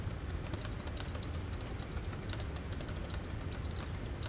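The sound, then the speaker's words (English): Rapid, continuous typing on a computer keyboard, a steady patter of clicking keys, with no voices over it. “Hand me that keyboard.”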